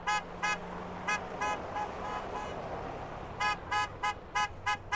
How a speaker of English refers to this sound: A caravan of trucks arrived carrying Joe's body.